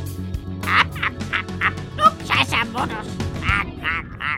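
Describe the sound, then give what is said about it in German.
A rose-ringed parakeet, a slender light-green parrot with a red bill, gives a rapid series of harsh, shrill screeches, about ten calls in a steady run, loud over a low background rumble. “Der schlanke, hellgrüne Vogel mit rotem Schnabel ist die am weitesten verbreitete Papageienart.”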